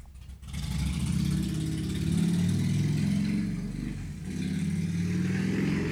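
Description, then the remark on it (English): A loud motorcycle engine revs, its low throbbing roar rising and falling in pitch for several seconds with a brief dip partway through and no talking. “That guy on a motorcycle, Houston Fortney, it's so loud”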